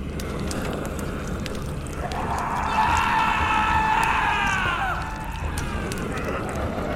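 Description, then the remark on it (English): A man's scream of agony and terror rises out of a dense, crackling rumble as creatures strip away his flesh with claws and fangs, holding a strained, wavering pitch for about three seconds before fading back into the noisy background. “Jared screamed in agony and terror as the creatures stripped away his flesh”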